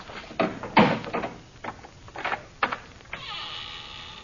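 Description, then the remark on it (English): A heavy old door, unopened for 1,000 years, groans open: a few dull knocks and scrapes, then a long, strained, buzzing creak that drags on steadily to the end, fairly loud. “You see, Effendi, it has not been opened for 1,000 years.”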